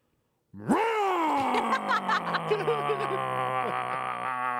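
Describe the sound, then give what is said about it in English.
A voice imitates the startup of a Corvette engine, likened to a 2024 Corvette Z06: a sudden rising vocal roar that settles into a steady, buzzing idle with a few rough warbles, held for about four seconds. “And I'll just recreate what the startup sound of that car is.”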